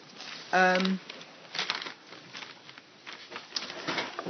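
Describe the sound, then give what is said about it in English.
Scraps of paper rustle and crinkle in several short, uneven bursts, with a brief low hum-like tone near the start and quiet in between. “So I've got these scraps of paper.”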